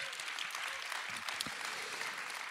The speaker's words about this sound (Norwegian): Velkommen til Porsgrunn. Liten applaus. Liten applaus, please.